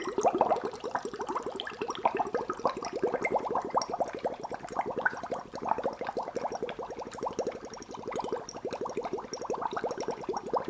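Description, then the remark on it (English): A steady, continuous stream of soft, gentle bubbles blown into water, gurgling at a quick, even rhythm for the whole stretch, moderately quiet, with no talking. “So you want a nice, gentle, consistent stream of gentle bubbles, which are just enough.”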